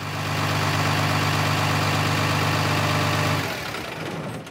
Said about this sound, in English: Blow me down, Sheila. Is that a sheep truck?